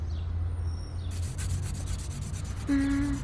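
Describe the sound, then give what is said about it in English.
A steady, dry scratchy rubbing sound of a pencil being scrubbed back and forth over the marked first page of a notebook, fairly loud, ending with a brief tonal hum near the end. “Have you got a pencil?”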